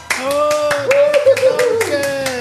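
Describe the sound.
Applause in a steady, rhythmic beat, about nine sharp claps in quick succession, loud and even, with a sustained voice holding a tone underneath the clapping.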